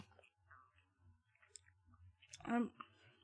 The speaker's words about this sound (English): It takes a lot more work than normal to chew these. I feel like I'm getting a jaw exercise.